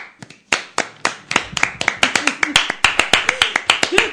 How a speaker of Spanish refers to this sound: vamos a hacer palmas.